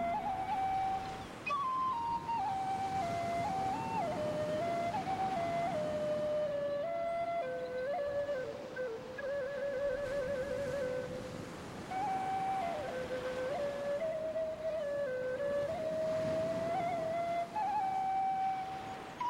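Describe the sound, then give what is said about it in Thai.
A Thai bamboo flute (khlui), played in a guest room at night by the sea, gives a slow, flowing melody of held, breathy notes that glide and step up and down in a middle-high range, steady and fairly loud throughout with no voices. “เล่นขลุ่ยไทยในลีลาต่างๆ”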